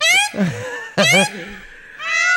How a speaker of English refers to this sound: That's a peacock. Hold on, listen to that.